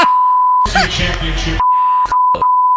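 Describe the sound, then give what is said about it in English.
A steady, loud censor bleep tone sounds, briefly gives way to a loud burst of voice, then returns and continues with a couple of quick breaks. “No, I'm going to beep everything.”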